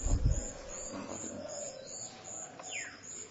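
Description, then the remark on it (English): Birds that walk around everywhere unafraid call softly, with low, pigeon-like cooing running under the scene and a quick descending chirp near the end, set against a faint outdoor background hum. “Over here, the birds, you know, walk everywhere, they are not scared.”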